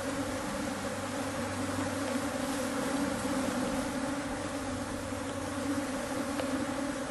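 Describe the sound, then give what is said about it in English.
A dense swarm of Africanized bees buzzes loudly and continuously during a full-blown attack, probing everywhere around a person wearing a bee veil, a thick, steady drone of countless wings with no pauses and no voices. “This is a full-blown Africanized bee attack underway.”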